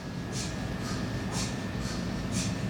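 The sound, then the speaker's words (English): An MR-Linac radiotherapy machine at the Royal Marsden Hospital in Sutton chugs steadily like a steam train, with five evenly spaced hissing puffs over a constant low rumble and a faint high steady tone, with no talking. “Professor Uwe Ilfke, leader of the Radiotherapy Physics Modelling Group, introduced me to his new piece of kit, which sounds a bit more like a steam train than a medical device.”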